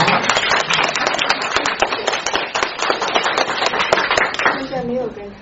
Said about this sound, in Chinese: 鼓掌。